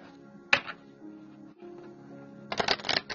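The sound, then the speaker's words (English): A Wildwood Tarot deck being shuffled: a sharp riffle near the start, then a quieter stretch with a steady low hum, ending in a busy burst of rapid papery flicks and snaps. “We're shuffling the Wildwood Tarot.”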